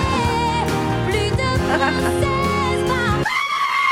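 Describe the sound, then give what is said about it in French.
Bleating goat screams ring out over loud, dense orchestral music, the wavering cries rising and falling in pitch before one long, strained scream holds at the end. “C'est la chèvre.”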